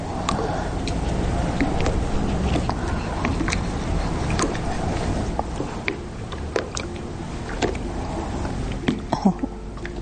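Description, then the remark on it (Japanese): A pug, out with a man and a bicycle, passes by, letting out short, irregular snorts and throaty grunts that come in scattered bursts over a steady, rumbling background noise. “聞こえました、パグ犬のいいですね。”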